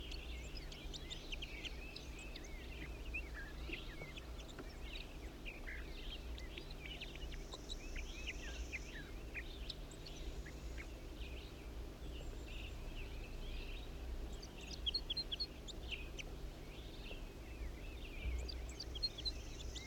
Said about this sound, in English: Wild bird. wild male bird that was just singing.